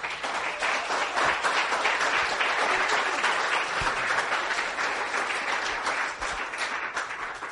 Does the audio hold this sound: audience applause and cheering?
yes